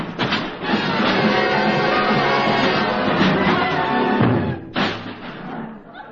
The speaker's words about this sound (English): If you don't shut up, wise guy, I'll bang you over the head with every instrument in my band.